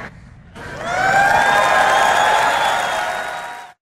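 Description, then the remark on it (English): A crowd bursts into loud cheering and whooping after a phone call, holding steady for about three seconds before cutting off abruptly. Sustained shouts ride over a dense wash of applause-like noise. “I don't know what's scarier, the fact that that call took place or the fact that everyone's cheering after it took place.”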